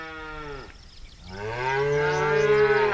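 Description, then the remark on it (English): Two long, deep moos from a cow, loud, the first falling off before a brief pause, the second swelling and sustained until the end. No talking. “Cattle have grazed the ranges of the West for over 150 years.”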